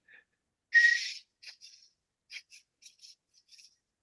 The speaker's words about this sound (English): See, that was one of my unusual talents. Just put on my early resume, I could whistle without moving my lips. So I do this. So here, I'll do a little version.